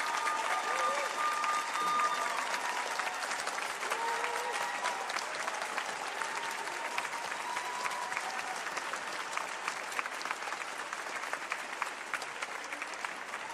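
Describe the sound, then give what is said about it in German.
Sustained audience applause for Yusei Matsui, artist and author of Assassination Classroom, lasting over ten seconds, a dense steady wash of many hands clapping, with a few faint tonal whistles or cheers mixed in. “Wir freuen uns, dass er da ist und deswegen jetzt einen donnernden Applaus für den Zeichner von und den Autor von Assassination Classroom, Yusei Matsui.”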